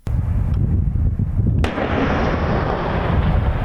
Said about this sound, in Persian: صدای توپخانه ارتش اسرائیل که جنوب لبنان را هدف قرار داد. منطقه هدف قرار گرفته موازی اطراف روستای الماشعب است.